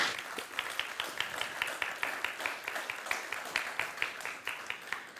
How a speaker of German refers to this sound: Ein Applaus an dich.